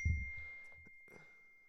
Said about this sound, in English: And just turn my notifications off so my laptop stops. Does anybody know how to turn notifications off?